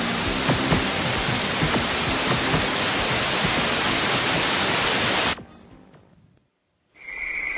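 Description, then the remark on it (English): Loud, steady radio static hisses for about five seconds, then cuts off abruptly into a moment of silence before a quieter burst of static returns with a faint high tone. “In the beginning, there was nothing. Just an idea. Static, really.”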